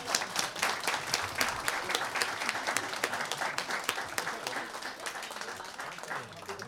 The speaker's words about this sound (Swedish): Stora applåd till, va?